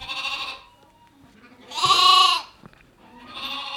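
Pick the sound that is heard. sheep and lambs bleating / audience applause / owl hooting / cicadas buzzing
sheep and lambs bleating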